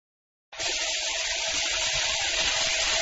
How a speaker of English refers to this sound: First, turn on the tap. Okay.